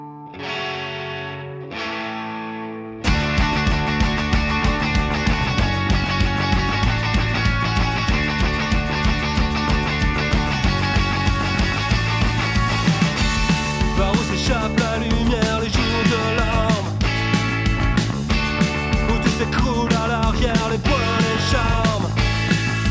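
A French punk rock song sung in French by a band from Rennes: a thin, quieter intro of about three seconds, then the full band bursts in with loud distorted guitars and steady driving drums that stay dense and energetic throughout.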